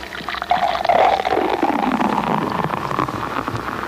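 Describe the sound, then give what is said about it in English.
A short pop as the cap comes off a bottle of Aaron Brew Formula 1002 beer, followed by a steady, fizzy pour with a gurgling, shifting tone that runs for several seconds without any voices. “And remember, for real enjoyment, all you have to do is pop a cap.”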